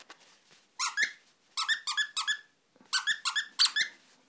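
A rubber toy pig called Rubber Piggy, also called Piggy Wiggy, squeaks in three quick bursts of three or four shrill, wheezy honks each, with short pauses between bursts and no talking.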